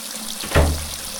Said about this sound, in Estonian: Jaa, ma teengi otsa lahti ja proovin kohe täna meie uut vanni. Anne, ole hea, lase vesi sisse. Ema Anne keerabki vee jooksma.